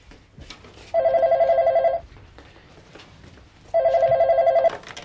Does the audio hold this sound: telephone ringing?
yes